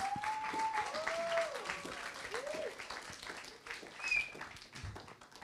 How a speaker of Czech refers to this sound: Tak jo, potlesk.